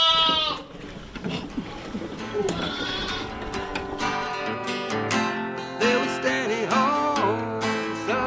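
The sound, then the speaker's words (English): About 20 sheep bleat constantly and loudly at feeding time on Pardalup Prison Farm, many overlapping calls rising and falling at once, with no pauses in the noisy chorus. “Well, it's easier than hand-feeding 20 sheep with three bottles.”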